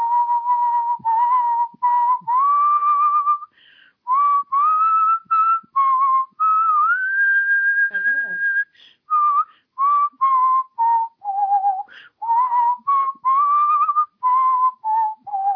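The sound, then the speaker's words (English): Someone whistles the Christmas carol "O Holy Night" alone, clear, in short phrased notes with brief pauses, climbing midway to a long sustained high pitch before settling back down. “Let's see if I can even whistle that high.”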